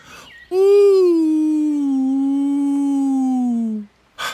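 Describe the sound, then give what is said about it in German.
A person imitates a wolf howl to show Keks how to howl like the wolves: one long, sustained, loud vocal tone lasting about three seconds, starting slightly higher and sliding gently lower before trailing off. “Entweder kann er nicht oder er will nicht heulen wie die Wölfe.”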